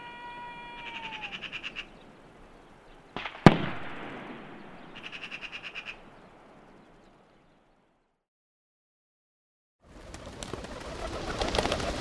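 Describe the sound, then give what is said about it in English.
A flock of common wood pigeons in flight over a forest: two bursts of rapid, rhythmic wing clatter, a single sharp bang like a gunshot between them, then a loud rush of many wings flapping at the end. “The small game category has as objectives hares, partridges, turtle doves, and common wood pigeons, like this flock which is now crossing this forest's sky.”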